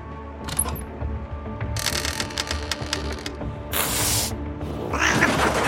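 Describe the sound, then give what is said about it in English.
A cat in a loading bay lets out a sudden, harsh hiss or screech as a door is opened, amid clattering and rattling as if something was knocked over. The sounds are loud, with no talking. “Holy shit, goddamn cat. That scared the shit out of me.”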